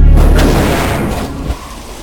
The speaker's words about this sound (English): Then, gritting his teeth, he brings his arms together. The two sentinels come together and explode.